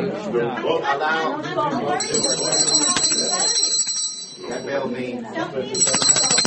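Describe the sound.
The chair's loud, bright bell rings continuously for several seconds to call order over a murmur of overlapping voices, stops briefly, then rings again near the end as the chatter continues.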